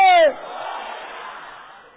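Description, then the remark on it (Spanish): A single loud, high sustained shout gives way to a roaring crowd of voices yelling battle cries together, a dense wash of cries that holds steady and then slowly tapers off. “Se atreve a dar unos gritos de guerra conmigo en esta noche.”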